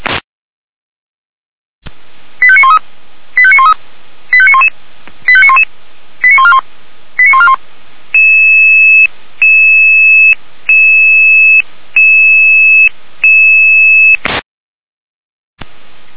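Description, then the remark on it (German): Emergency pager alarm tones from the Leitstelle Jena dispatch centre, alerting the Christoph Thüringen rescue helicopter and Rotkreuz Weimar 583-1 to a call in Blankenhain: a rapid run of short electronic tone bursts, then a series of longer, steady beeps at even intervals, loud and clean over a faint radio hiss, with no talking. “Leitstelle Jena, Alarm.”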